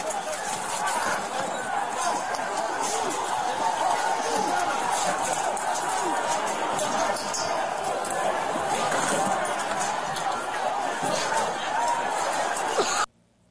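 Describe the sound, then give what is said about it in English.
A loud, unbroken roar of a rowdy crowd clashing with police, some throwing flagpoles with American and MAGA flags like spears at law enforcement, with overlapping shouts and chaotic commotion for about thirteen seconds before it cuts off abruptly. “You hear the loving crowd there?”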